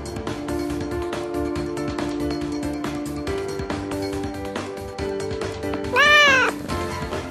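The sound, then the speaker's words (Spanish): A single loud, drawn-out cat meow near the end, rising and falling in pitch over steady background music, with no talking. “El gato, que lleva con nosotros acompañándonos desde primera hora de la mañana, desde las 10”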